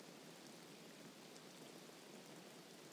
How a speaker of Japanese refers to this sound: 雨、いっぱい降ってる。